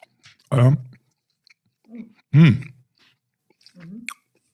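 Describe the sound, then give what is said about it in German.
Chewing after a hearty bite into a soft, tender, chocolatey cake, with wet smacking mouth sounds, broken by two loud voiced hums and a faint click near the end. “Wenn es jetzt gleich ein bisschen schmatzt und knirscht, dann genau, sind wir.”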